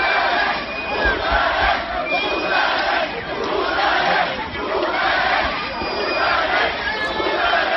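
A large crowd of Catalan independence referendum supporters chants "Votarem, votarem" ("we will vote") in unison in the streets before the 1 October referendum in Catalonia, loud and steady, with many voices swelling and dipping in a repeated rhythmic cadence for several seconds.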